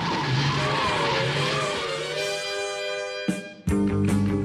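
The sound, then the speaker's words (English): The Batmobile, designed by George Barris from a 1955 Lincoln Futura, tears away with loud, sustained tire squealing and a rising engine whine, then a brief gap before another sharp burst of screeching and revving, intense throughout. “To the Batmobile. Let's go. Atomic batteries to power. Turbines to speed. Roger. Ready to move out.”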